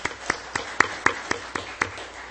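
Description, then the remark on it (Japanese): Welcoming applause from a church audience for a member's parents who have just arrived: about eight sharp, evenly spaced claps over a steady low hiss, sounding sparse rather than like a full crowd, with no talking. “歓迎の拍手もよろしくお願いします。”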